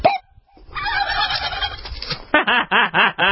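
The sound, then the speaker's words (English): A turkey gobbles loudly: a long, rattling warble that ends in a quick series of about five sharp, clucking bursts. No one speaks. “It is about the turkey, isn't it?”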